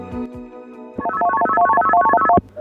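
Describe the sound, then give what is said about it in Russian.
A telephone rings with a rapid electronic warbling trill, one short loud burst lasting over a second, preceded by a faint low hum and cut off abruptly, opening a recorded phone call. “Это я предваряю запись следующего телефонного звонка, который мы сейчас послушаем.”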